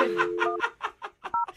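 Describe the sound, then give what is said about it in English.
A phone number being dialed quickly, its short keypad beeps coming in a fast, uneven run over a steady low tone, mixed with rhythmic bursts of noise. “Okay, well, let's pick up the tempo and just dial the phone number right now.”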